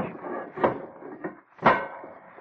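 Heavy metal submarine hatches bang shut as the submarine prepares to dive, two loud clanks about a second apart with a smaller knock between them, over a steady low rumble.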